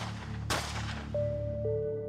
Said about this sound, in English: But just 10 minutes after the meeting begins, Fred's assistant hears gunshots.